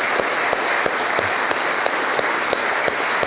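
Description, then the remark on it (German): At a wedding anniversary celebration, a crowd applauds the anniversary couples steadily, dense clapping filling the whole stretch with a few sharper claps standing out at a regular beat, as if some people clap in rhythm. No voices are heard. “Ich glaube, wir können da einander, auch wenn wir allein sind, einfach mal am Anfang einen Applaus geben.”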